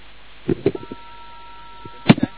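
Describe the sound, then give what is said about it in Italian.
Telephone keypad dialing on a portable tone-dialing keypad with a loudspeaker on its back: a steady electronic tone holds for about a second, framed by a few soft clicks and knocks of buttons being pressed, with no talking. “ecco, la tastiera Tony, vi faccio vedere una, è questa, utilizzatissima. Ha un altoparlante dietro, portatile, si può mettere ovunque.”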